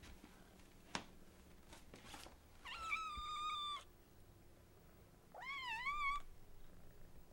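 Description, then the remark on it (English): A cat meows twice, two drawn-out, wavering calls about two seconds apart, clear, after a few soft clicks and rustles against a quiet low background hum. “Kitties. Kitties.”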